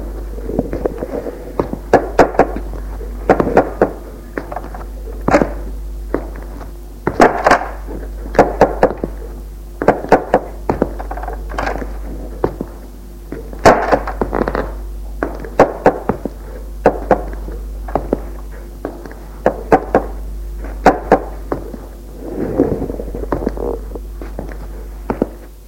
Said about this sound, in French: Arrivée au grenier, elle frappe aux portes et les ouvre.